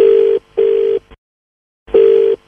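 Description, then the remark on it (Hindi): A phone line's ringback tone as a call is connected through to another person: a steady electronic beep in two quick pulses, a pause, then another pulse, clear with no one talking. “अच्छा, एक से एक कनेक्ट कर देता हूँ आपको।”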